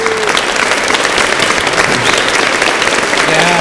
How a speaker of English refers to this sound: Thanks, everybody. One give them a round of applause.